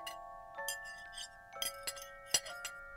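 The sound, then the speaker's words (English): Dishes clink together as they are done after supper, in a scattered, irregular series of sharp taps, each leaving a bright, ringing tone that hangs between strikes. Moderate volume, with no voices. “And then they did the dishes.”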